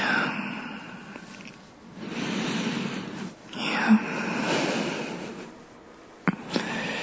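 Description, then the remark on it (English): Heavy breathing: several long, rasping breaths that rise and fall in slow waves, with a couple of brief sharp clicks near the end and no talking. “Yeah, breathing heavy.”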